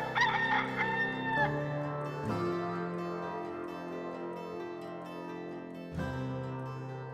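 A loud rooster crow rings out at the start, its drawn-out call fading into a sustained, humming tonal backdrop that continues with a few abrupt shifts. No one speaks.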